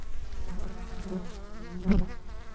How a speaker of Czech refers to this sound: A tohle je krásná zvědavá malinká včela. Podívej se, jak je taková ještě útočná.